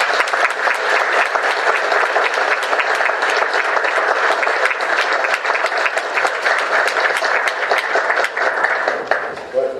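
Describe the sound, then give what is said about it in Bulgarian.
A crowd applauds steadily for about ten seconds to welcome Bulgarian politician Ivaylo Kalfin, a dense, loud wash of many hands clapping at once with no pauses, holding an even level before tapering slightly at the very end. “Дами и господа, вашите аплодисменти за наистина големия български политик Ивайло Калфин.”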